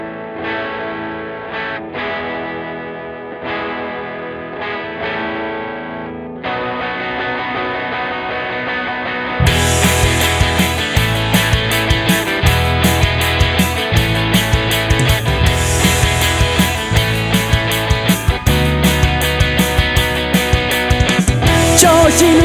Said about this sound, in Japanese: ここで曲紹介に参りましょう。